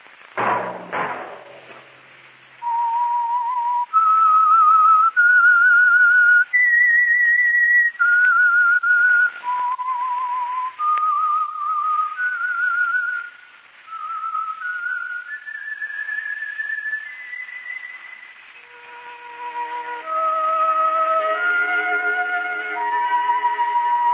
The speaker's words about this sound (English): That whistle be your signal for the Signal Oil program, The Whistler.